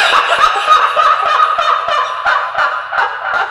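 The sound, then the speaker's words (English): A loud, creepy cackling laugh sound effect, rapid and rhythmic with harsh, gobble-like pulses running continuously for a few seconds, with no one talking. “Let's give him a creepy laugh.”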